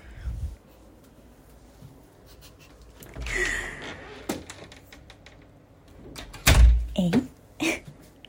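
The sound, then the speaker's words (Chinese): A door is worked open and shut to collect delivered medicine, with scattered clicks and rattles of the latch, a muffled bump midway, and a heavier thud with a rattle as it closes near the end. “好，那你先去开门拿药好吗？”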